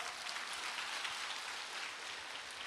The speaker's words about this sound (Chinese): 鼓掌。